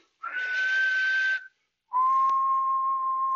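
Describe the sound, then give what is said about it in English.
A person whistles an imitation of a varied thrush call: two long, steady, buzzy whistled notes, the first higher, the second lower, separated by a short pause, with no talking. “Can you give us a varied thrush call?”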